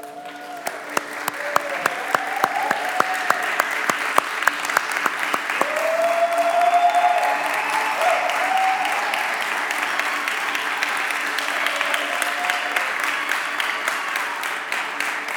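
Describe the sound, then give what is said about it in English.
An audience at a church service applauds steadily for about fifteen seconds as five people who are being baptized stand up, a dense wash of clapping with sharp individual claps standing out, plus a few faint whistling or vocal tones mixed in. “We'll have more time for clapping at the end. So please hold your applause for a moment.”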